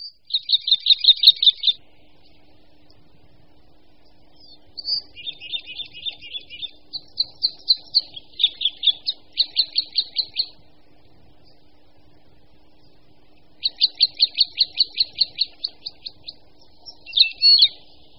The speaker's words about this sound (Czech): křivka obecná.